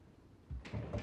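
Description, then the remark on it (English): The door to a study swings back and forth on its hinges: a soft thump followed by a rising, scraping creak with a couple of squeaky tones, brief and fairly loud after a quiet start. “Moving past the stove, she peers around the kitchen doorway to find the door to the study swinging back and forth on its hinges.”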